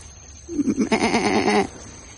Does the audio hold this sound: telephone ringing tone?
no